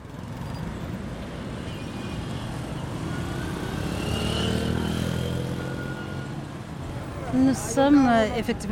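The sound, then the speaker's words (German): Steady rumble of busy city traffic at a large roundabout in the city centre of Kigali, Rwanda, where the business district begins. Engines drone and swell as vehicles pass, with a brief burst of voices near the end. “Wir sind hier mitten im Stadtzentrum. Hier, direkt beim großen Verkehrskreisel, fängt das Geschäftsviertel an.”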